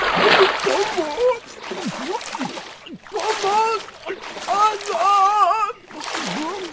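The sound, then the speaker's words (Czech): A heavy splash as a wolf weighed down by heavy stones falls into a well, followed by several seconds of gurgling, bubbling sounds with warbling, voice-like tones, moderately loud. “Když se přivalil ke studni a naklonil se nad vodu, těžké kameny ho táhly dolů.”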